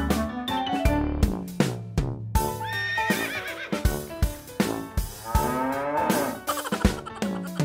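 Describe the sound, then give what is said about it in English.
Cow moos mixed into a bouncy, upbeat song about farm animals with steady drum hits, alongside horse-like whinnying sounds, all loud. “The cows on the farm say moo, moo, moo.”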